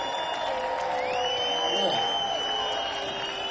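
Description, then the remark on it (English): A concert audience applauds and cheers for a musician in a steady, continuous wash of sound, with a high sustained whistle cutting through the crowd noise for most of the stretch. “Let's hear it from ….”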